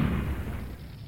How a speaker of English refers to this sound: His truck exploded into flames.